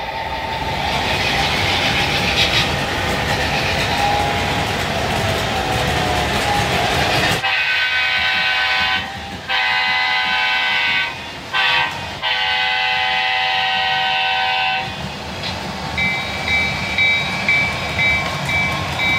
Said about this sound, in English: DCC control of that, and we'll start it around the track.